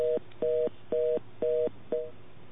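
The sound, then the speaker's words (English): A telephone line tone pulses on and off in five short, evenly spaced beeps, each a steady dual-pitched hum heard through a narrow phone connection, with no voices. “Okay, I have a dial tone there.”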